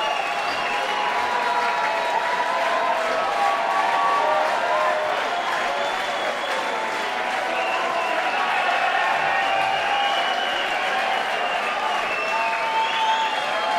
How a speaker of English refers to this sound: The roadies are all dressed in black with black hats, and that small extra cheer was one of them coming out, setting … guitar back up.